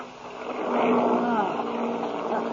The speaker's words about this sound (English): Hey, sounds like something's wrong. Huh? Listen to those motors.